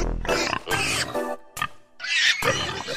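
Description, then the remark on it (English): Pigs squealing loudly, a rapid run of shrill, harsh squeals and grunts over about three seconds, with only a brief pause in the middle and no talking. “Squealing pigs and all, it's Aunt Martha.”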